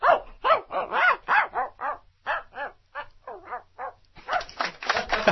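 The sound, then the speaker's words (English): A person's voice imitates a dog barking from far off, producing a quick run of short, harmonic yaps and whimpery yips, ending in a breathier, noisier burst, with no ordinary speech. “Can you please do Far Away Dog?”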